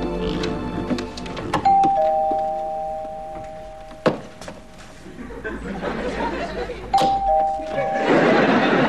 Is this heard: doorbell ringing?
yes